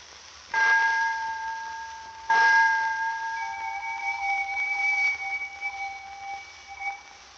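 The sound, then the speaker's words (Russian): A railway station departure bell rings out twice, each clear, sharp stroke followed by a long, shimmering metallic decay that lingers and slowly fades. It is the second bell, for a train departing to Rostov, Kharkov, Kursk, Moscow and Petersburg. No voices are heard. “Второй звонок. Поезд отправляется в Ростов, Харьков, Курск, Москву и Петербург.”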